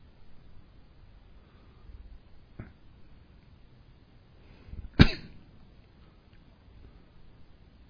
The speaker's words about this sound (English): Just wait for that little cough to subside, and now my body starts to feel really relaxed.